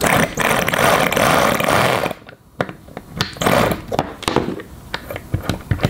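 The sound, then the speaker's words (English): A small, fuel-flooded rotary engine, just reassembled, buzzes loudly and steadily for about two seconds after starting up, then cuts out and sputters, firing in uneven bursts as it struggles to keep running. No voices. “Nice and flooded, just like the rotaries like it. Started up.”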